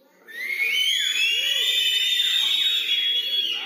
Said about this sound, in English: So, everybody that can whistle, let's act on this verse. Whistle.